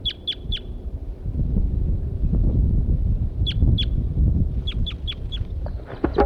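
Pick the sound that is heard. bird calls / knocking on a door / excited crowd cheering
bird calls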